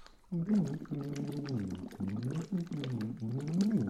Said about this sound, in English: we're blowing into bottles of water, aren't we